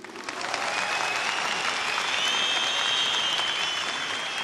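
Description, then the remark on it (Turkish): A large audience in a hall applauds steadily in support, a dense, continuous wash of clapping that swells in the first half-second and holds at a strong, even level throughout, with no talking. “Şimdi bu salondan tüm dünyaya onları destekleyen kocaman bir alkış.”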